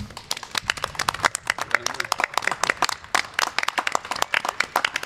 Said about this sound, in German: Und ich bitte nochmal um einen herzlichen Applaus für euer Mitmachen. Danke, dass ihr dabei wart.